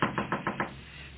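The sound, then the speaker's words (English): A quick series of five firm knocks on the wooden door of a place with rooms to rent, evenly spaced in a brisk rhythm, moderately loud, followed by a faint hum. “Come on, somebody. Answer the door.”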